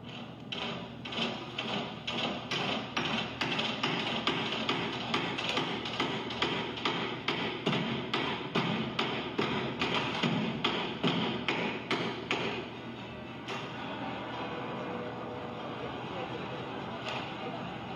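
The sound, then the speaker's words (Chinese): Rapid, irregular hammer blows and knocks strike a piano being torn apart with saws, hammers, electric drills, stones and kitchen utensils in the Fluxus work Piano Activities, loud, then give way to a rougher scraping clatter of tools near the end. “其实就是表现了破坏钢琴的声音，用锯子、锤子、电钻、石头，甚至一些厨具去拆解一下钢琴，可能是代表对细腻的艺术的攻击。”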